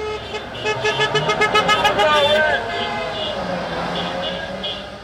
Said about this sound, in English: Letting people know they can organize is hard with social distancing in place, but they've held parades of cars honking horns to bring attention to their efforts.